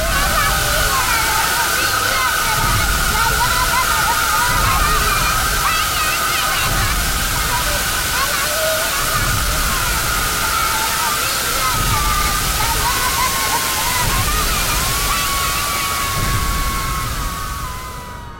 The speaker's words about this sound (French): Et voilà comment on peut installer une cascade avec des enfants dans une archive de 1948.